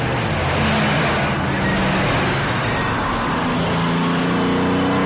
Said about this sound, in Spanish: Poco después, varios vehículos de transporte seguidos de un autobús circulan por una avenida. Las calles están tranquilas y sin apenas tráfico y la gente pasea por las aceras.